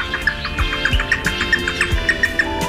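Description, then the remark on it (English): A groove-billed ani (Crotophaga sulcirostris) calls repeatedly, a steady run of short, bright chirping notes at an even pace, clear with no talking. “Today's featured feathered friend, Crotophaga sulcirostris, the groove-billed Ani.”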